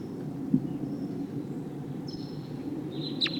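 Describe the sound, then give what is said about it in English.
A wild bird gives a couple of brief, thin, high-pitched V-shaped flight calls, the last one sharper, over a steady low rumbling background with no talking. “There's a wild bird here. Sounds like a V-shaped flight call.”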